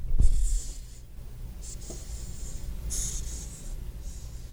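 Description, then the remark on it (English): A hissing cockroach, taken from its cage and handled, pushes air out of its spiracles in a series of breathy, airy hisses, several short bursts in a row like air escaping a balloon, fairly soft with a low rumble of handling underneath. “Little cockroach buddy. Boy, it really is hissing.”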